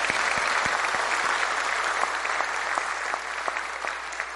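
A crowd applauds steadily, a dense wash of many hands clapping at close range, holding fairly even in loudness for a few seconds before easing slightly toward the end.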